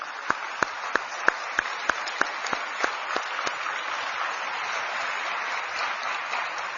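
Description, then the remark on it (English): A crowd applauding the Sri Satya Sai Media Center steadily for several seconds, a dense wash of clapping with a few sharp, louder claps standing out in a quick irregular beat early on. The sharp claps drop away and the applause carries on. “I think the media center needs a big round of applause.”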